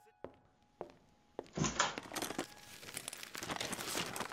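A few sharp knocks and thumps give way to sustained crinkling and rustling of paper, like someone digging through a box among clutter to find papers and pens, busy and continuous to the end.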